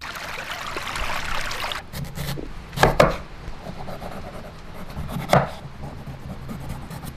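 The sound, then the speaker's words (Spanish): A knife chops an onion on a board in a few sharp, scattered strikes, some in quick clusters, while a steady rush of flowing stream water runs underneath, louder at the very start, as a recipe is cooked outdoors beside a stream. “El río, el cuchillo, cebolla.”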